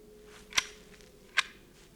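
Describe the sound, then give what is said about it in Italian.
Two sharp, crackling rifle volleys from a firing squad, about a second apart, each a brief bright snap that dies away quickly over a faint, steady low hum. “Puntate! Fuoco!”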